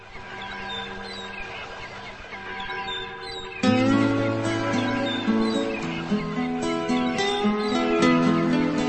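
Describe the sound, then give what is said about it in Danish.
Birds twitter and chirp over a soft, sustained musical backdrop at the start of a 1990 song, then fuller, louder instrumental music swells in after a few seconds while the chirping continues faintly above it. “men den starter lige så stille og roligt med lidt fuglefløjt, og så bygger den stille og roligt op, og det er sådan en sang, man skal høre om morgenen, når man står tidligt op”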